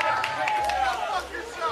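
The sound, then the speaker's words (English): A crowd of people waiting in line to shop on Thanksgiving claps and cheers in a steady, dense wash of applause, with excited voices shouting over it throughout the short burst. “A round of applause followed by go fuck yourself.”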